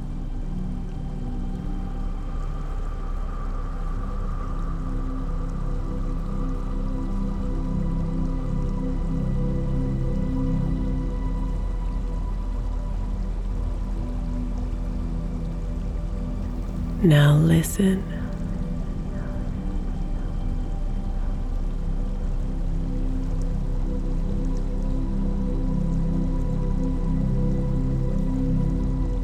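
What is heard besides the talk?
trickling running water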